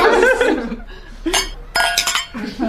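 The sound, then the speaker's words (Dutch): Glasses clink together in a toast, a couple of bright ringing chimes, with a soft chuckle and murmured voices around them. “Nou, proost.”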